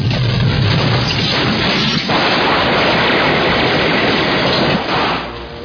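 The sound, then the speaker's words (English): A loud cannon blast from a remote-controlled film prop, a little antique sailor figure with a cannon, erupts into a sustained, roaring wash of booming noise that holds steady for several seconds before easing off near the end, with no voices. “Little antique man, sailor man with a cannon, all done by remote control.”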